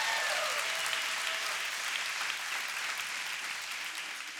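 Sustained audience applause, a dense wash of many hands clapping at steady volume for several seconds, tapering slightly toward the end, with no talking over it.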